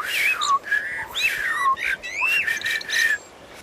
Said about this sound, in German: Das ist eine Amsel, eine sehr verbreitete Vogelart.